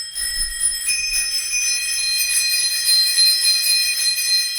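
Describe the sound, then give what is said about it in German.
Several tandem bicycle bells ring together in a continuous, bright metallic jangle, fairly loud, their overlapping high tones sustained throughout with no voices. “Diese Klingeln gehören zu Tandems.”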